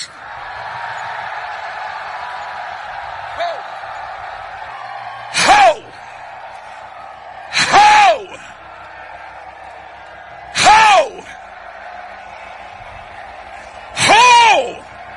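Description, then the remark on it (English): A large crowd of men shouts loudly together to God after a count of three, a steady roar of many voices broken by four sharp, louder bursts of collective yelling spaced a few seconds apart. “Every man in the building, on the count of three, release a shout to God.”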